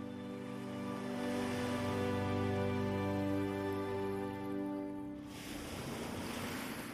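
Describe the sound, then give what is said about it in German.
Steady ocean surf breaks on the shore, rushing and washing continuously, partly beneath a sustained, humming tonal drone that fades out near the end, leaving the breaking waves alone and fuller. “Mit der nächsten Welle gehen lässt.”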